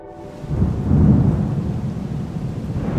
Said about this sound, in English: So, end of October, a few weeks after she passed on, it was a very stormy night.